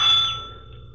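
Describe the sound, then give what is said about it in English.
A single bright, high-pitched doorbell chime with a chirping, birdlike quality rings out loudly at the front door of a two-story rooming house on Ingram Street, then fades over about half a second, leaving a soft low hum. “What kind of doorbell?”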